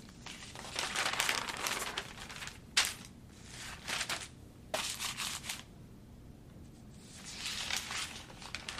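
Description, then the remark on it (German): Newspaper pages rustle and crinkle in several bursts as a father reads the newspaper at a table at home, with brief pauses between turns and one sharp crisp snap partway through; moderately soft, with no voices. “Am Tisch hat Papa es sich gemütlich gemacht und liest die Zeitung.”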